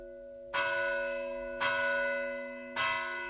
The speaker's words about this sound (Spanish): Se trata del toque del alba, hoy en día en desuso, pero que antes despertaba a la gente anunciando un nuevo día.